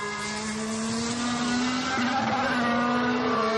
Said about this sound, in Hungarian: Mennyivel másként szólnak a motorok ilyen vízes pályán. Nyilván nem autóznak a határon. Hát rövidebbeket váltanak, ugye nem forgatják ki adott helyzetben, főleg alacsony fordulaton nem forgatják ki annyira a fokozatokat, hamarabb elváltják,